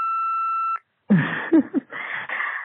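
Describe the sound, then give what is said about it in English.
A single steady voicemail beep from the studio answering machine on Rob Lowe's Lowdown Line, a clean high tone lasting under a second, followed by a short pause and then a caller beginning to speak over a phone line. “Here's the beep.”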